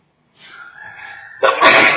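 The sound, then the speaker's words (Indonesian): A single loud sneeze: a rising drawn-in breath builds for about a second, then bursts into a sharp, noisy explosive release that trails off. No one talks. “Alhamdulillah.”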